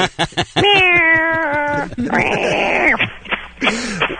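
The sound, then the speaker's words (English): A drawn-out, steady-pitched meow is followed by a rising-and-falling meow and a short final mew, all fairly loud with brief breathy sounds between them. The cat is Socks (Sockington), a cat in Massachusetts with over half a million Twitter followers. “Why do you suppose so many people are interested in what a cat has to Twitter about?”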